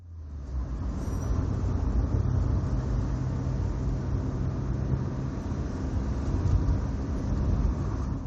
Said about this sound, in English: As the car speeds up, the building facades blur past the window.